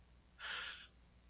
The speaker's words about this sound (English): hang on, I got a cough here for a minute.